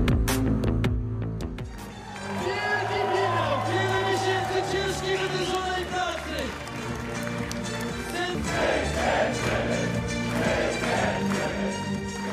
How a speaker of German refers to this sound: Der Jubel und Applaus, den ihr gerade gehört habt, der galt Karol Nawrocki, dem Mann, der im August zum Präsidenten Polens gewählt wurde.